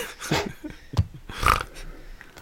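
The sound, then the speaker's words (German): A few short, rough pig-like grunts and snorts come in quick bursts, moderately loud, with no one talking. “Oh, da wurde mal kurz gegrunzt, das oder? Schweinchen.”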